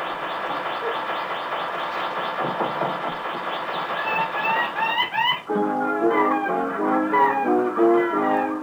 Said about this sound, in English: and the bluebird of paradise, a male in full courtship display. Turned upside down in a branch, he makes this incredible sound.